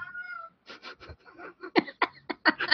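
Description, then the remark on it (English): A cat meows: one clear, drawn-out cry, then a quick run of rougher, choppy yowls and chirps at fairly strong volume, with no talking. “Sorry, the cat is having a moment.”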